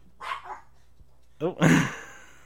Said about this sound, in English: Okay, that right there, that whole experience right there where the dogs started barking, did that create an emotional response or purely mental response?